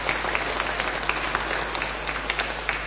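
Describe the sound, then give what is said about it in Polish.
Sustained audience applause at a regional meeting in the Diocese of Bielsko-Żywiec, for friends from the Sanctuary of Our Lady in Rychwałd: a dense crackle of many hands clapping at a steady, fairly loud level with scattered sharper claps poking through, no voices rising above it. “Brawa dla nich!”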